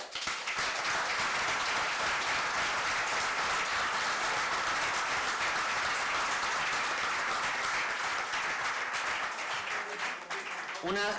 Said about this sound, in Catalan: Per ells, per tot ells, alcalde, permetem demanar-vos un fort aplaudiment.